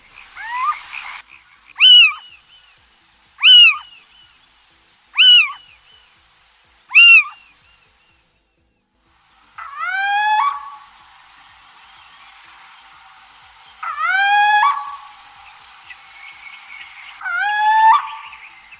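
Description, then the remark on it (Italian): A little owl's territorial song: clear, mewing calls repeated at a steady, unhurried pace, then after a short pause a few longer rising calls over a faint background hiss. “Ecco il canto territoriale della civetta.”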